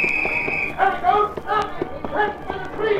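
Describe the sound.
Quick running footsteps of a man dashing through a rear door and across the open space behind a building thud in a steady rhythm beneath raised voices, with a sustained high tone sounding over the first second before the shouting takes over.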